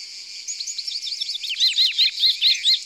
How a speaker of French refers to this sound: Ça, c'est un faucon cresserelle.